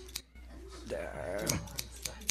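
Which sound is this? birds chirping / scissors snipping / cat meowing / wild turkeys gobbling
scissors snipping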